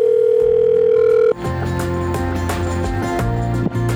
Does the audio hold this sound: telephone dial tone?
yes